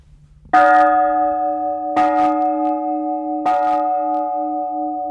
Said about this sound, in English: This bell right here came from Spain, we believe. And it says, St. Francis of Gabriel, ora pro nobis, pray for us, 1727.